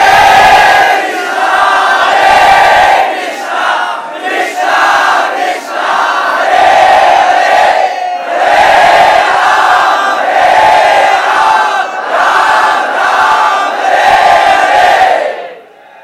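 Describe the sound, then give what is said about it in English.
A large crowd of devotees with raised arms chants the holy name (Hare Krishna) loudly in unison, voices rising and falling in rhythmic repeated phrases with brief dips between them, sustained throughout. “So everyone, with tears of devotion in their eyes, from their heart of hearts, as loud as they could, they raised their arms to chant the holy name.”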